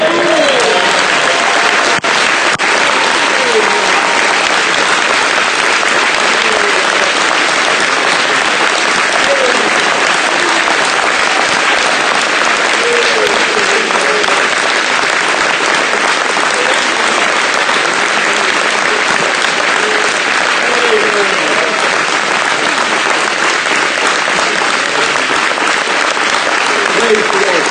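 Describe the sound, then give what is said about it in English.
A church audience at Branham Tabernacle claps steadily, a dense, sustained wash of applause that stays loud and even for nearly half a minute, with faint voices murmuring underneath. “So let's all tell you clapping.”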